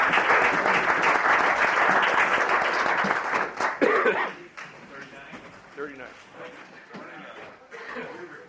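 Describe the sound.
A room full of people in a legislative House chamber breaks into loud, sustained applause for several seconds, a round of applause for Representative Duncan's birthday, then it fades quickly and voices carry on talking.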